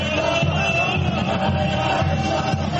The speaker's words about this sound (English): As the Sufis spin to the rhythmic chants of the crowd, they enter a kind of trance.